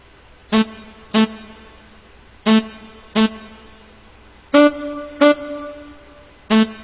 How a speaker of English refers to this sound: You can hear more of the signal, the dry, the saxophone itself. And again, you can mix that to whatever way you want.